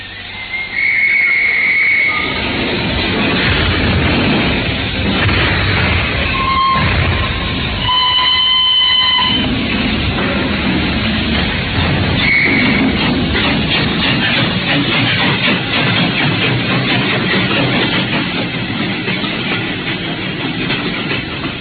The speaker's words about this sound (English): The train sped out of Paddington.